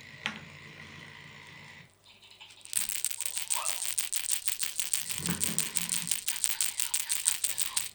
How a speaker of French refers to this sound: Un grelot.